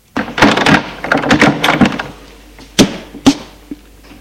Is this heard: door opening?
yes